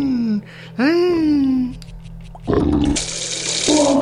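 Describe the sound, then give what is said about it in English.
A childlike voice imitates a car engine with wavering, gliding hums, then breaks into loud, hissing, rushing bursts, a strange and cartoonish game sound effect. “Okay, it's a little kid trying to sound like a car. Vroom, vroom, vroom. sounds in this game are so weird.”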